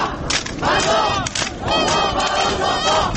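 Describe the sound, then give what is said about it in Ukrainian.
A large crowd at a demonstration in France against same-sex marriage chants the slogan "one mother and one father for every child" in unison, loud rhythmic phrases rising and falling in repeated bursts, with many voices blending into a dense roar between the chanted lines. “Це гасло французьких демонстрацій цієї осені, що збирали багатьох противників одностатевих шлюбів у різних містах Франції.”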